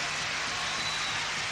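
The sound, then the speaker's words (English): A crowd applauds steadily, a dense crackle of many hands clapping at an even, sustained loudness with no voices over it. “Thank you for your wonderful applause.”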